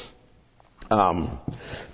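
A loud cough from a speaker giving a Bible teaching breaks a quiet pause, a sharp throaty burst followed moments later by a smaller second catch.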